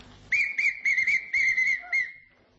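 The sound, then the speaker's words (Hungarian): A hunting whistle, not a police whistle, is blown in a run of quick, shrill, warbling pulses at one steady high pitch, ending in a longer tone that fades away. No voices are heard. “Ez nem rendőr síp, ez vadász síp.”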